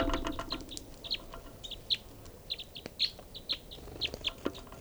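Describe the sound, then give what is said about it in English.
Birds calling in a quick series of short, high chirps and tweets, irregularly spaced and fairly loud over a faint background hum, with no one talking. “This is one of the birds.”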